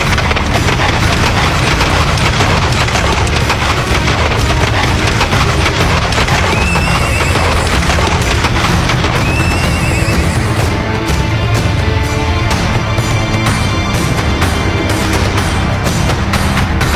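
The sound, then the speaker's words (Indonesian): A horse whinnies a couple of times over a dense, loud bed of noise, with hooves clip-clopping steadily throughout as a rider sets off on horseback toward Parang Tritis, leading a second horse; no one speaks. “Aku bisa kok naik kuda sambil menuntun kuda.”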